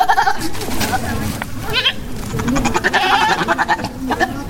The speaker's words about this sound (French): garde une dizaine de bœufs et de chèvres devant sa cour. Il a l'habitude de conduire son troupeau de 800 têtes au Togo à la recherche de pâturage.